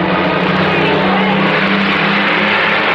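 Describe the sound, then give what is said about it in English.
A truck's engine roars for the whole stretch, a loud, steady rumble with a low droning hum as the truck passes, and no voices. “Ellen has to wait until a truck passes till she can get out of the car”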